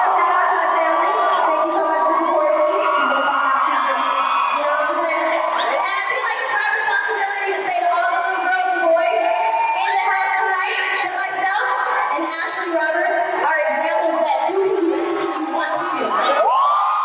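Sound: crowd roaring and cheering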